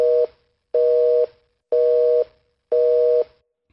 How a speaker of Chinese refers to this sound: 您好，您所拨打的电话已停机。 Sorry, the subscriber you dialed is out of service.